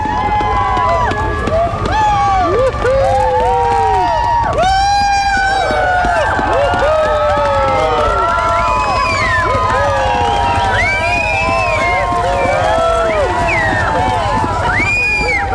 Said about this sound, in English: You can hear the crowd, another great crowd gathered around Front Street for another Iditarod finisher, 2014, Ray Reddington Jr.